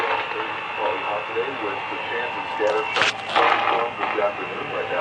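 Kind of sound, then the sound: signal or alarm, radio static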